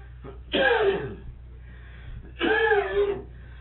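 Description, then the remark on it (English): A coughing fit: two loud, harsh coughing spasms about two seconds apart, each with a strained, wheezy vocal edge, against a low background hum. “Where'd you get the whooping cough?”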